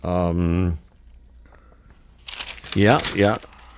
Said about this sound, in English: I'll have to look into that, okay, by turning the page. Turn the page on the air.